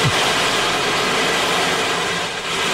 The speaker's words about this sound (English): I don't know what it's called, but it sounds like the ocean. It's the ocean wave drum, and it's very soothing and kind of addictive.